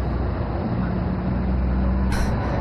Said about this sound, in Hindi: करज में कितनी ट्रैफिक है?